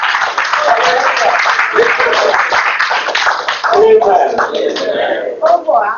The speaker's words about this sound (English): Give Jesus a clap up.